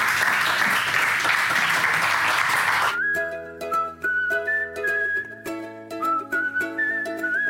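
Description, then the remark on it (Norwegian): A burst of dense, steady applause from a crowd fills the first three seconds, then cuts off abruptly as a bright, tuneful melody with sustained tones takes over. “Applaus.”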